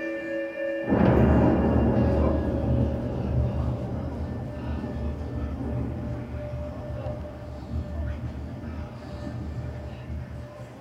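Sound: rumbling thunder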